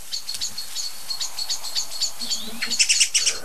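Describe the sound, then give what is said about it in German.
A dense chorus of many songbirds, among them blackbirds and song thrushes, scolding with alarm calls at once, a constant overlapping flurry of bright, high notes that swells louder near the end, with no voices. “Richtig laut, wie ich finde. Und es ist nicht nur eine Amsel oder eine Singdrossel. Es sind jetzt viele, ne?”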